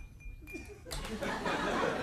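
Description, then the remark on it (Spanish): A pen taps against a glass as a stand-in for cutlery falling on a plate, giving a thin, bright ringing tone followed by a burst of clattering noise, with soft chuckling and murmured voices alongside. “Bueno, es un bolígrafo en un vaso, pero nos hacemos a la idea, sí.”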